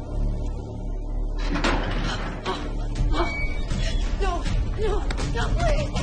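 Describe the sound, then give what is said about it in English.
Armed soldiers open heavy cell doors, which clank and scrape open in a couple of sharp, loud bursts, followed by a jumble of raised voices and shuffling. “Armed soldiers open the cell doors.”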